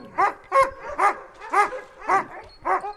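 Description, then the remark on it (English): Alaskan husky sled dogs of Denali National Park, Alaska, bark in a steady series of about seven sharp, yelping barks, roughly two per second. The barking is loud and clear, with no talking. “Denali's Alaskan Huskies play a vital role in the park, even if they don't wear Park Service gray and greens.”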